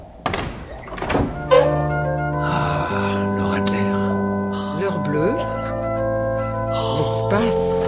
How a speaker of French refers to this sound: Regardez. Vous voyez la porte là juste à notre droite? Oui. Ben, si par exemple je l'ouvre, qu'est-ce qu'on trouve?